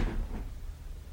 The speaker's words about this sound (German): Ich ging wieder auf den Gang hinaus und zog die Tür hinter mir zu.